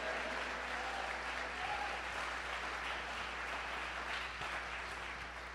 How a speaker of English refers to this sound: And if you believe that, clap your hands and shout amen.